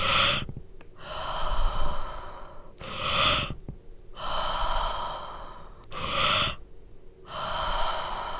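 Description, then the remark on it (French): Loud, forceful breathing during a breathing exercise: noisy inhales alternate with strong, gusty exhales of the same length and duration, repeating in a steady, sustained rhythm with no talking. “Plutôt un souffle puissant, mais de la même longueur et durée que l'inspiration.”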